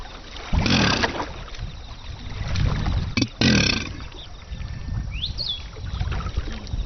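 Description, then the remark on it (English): Two deep, rumbling bellows from male Chinese alligators in water at a breeding centre near Xuanzhong, calling to attract a mate, each about half a second long, burst out a few seconds apart over a steady wash of water and faint splashing. “The males bellow to attract a mate.”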